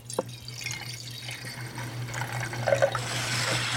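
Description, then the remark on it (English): Old wine pouring steadily into a glass, a gurgling splash that builds slightly in pitch as it fills, over a low electrical hum with no talking. “And we're just going to pour here.”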